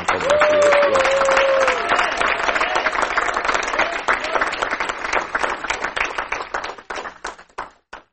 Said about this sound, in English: Give God a good clap.